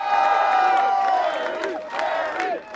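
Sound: cheering crowd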